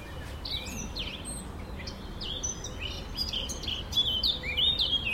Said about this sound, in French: Voilà, ça c'est la fauvette à tête noire. Qu'on va rencontrer beaucoup en forêt également. Voilà, qu'on entend bien.